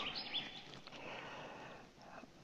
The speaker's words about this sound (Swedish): Och jag kan tänka mig att ni hör fåglarna kvittra. De är riktigt glada idag.